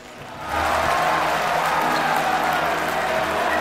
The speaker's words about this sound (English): He holds his arms out as the crowd cheers.